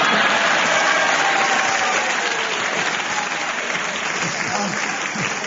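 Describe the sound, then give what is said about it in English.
A studio audience at a panel game show applauds a player's challenge, a dense, even wash of clapping hands that holds at a loud level for several seconds with no voices rising above it. “you're the only person in this whoever plays this game who gets a round of applause for challenging.”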